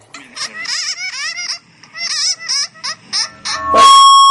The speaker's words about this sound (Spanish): Este es un murciélago que grabé en marzo en Malasia. A ver. Ahí les va.